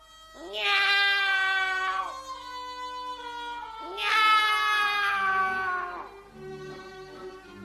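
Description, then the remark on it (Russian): Two long, drawn-out cat meows, loud, each wavering and sliding down in pitch, separated by a short pause, with no talking. “Кошки, кошечки, идите ко мне.”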